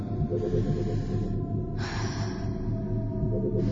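Deep, heavy breathing exercises, with a strong rushing breath in the middle and another starting at the end, over a steady low rumbling background.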